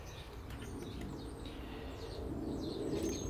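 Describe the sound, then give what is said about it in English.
Faint blackbird calls, a few thin descending chirps, over a steady low outdoor rumble, with no one talking. “Mr. Blackbird just came down there for some porridge. Miss Blackbird swooped down and chased him off.”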